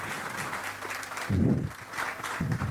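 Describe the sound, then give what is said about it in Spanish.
An audience at a talk applauds as a timple player is welcomed, a dense, steady patter of many hands clapping, swelling briefly louder midway before settling back to an even roar. “Un aplauso, porfa.”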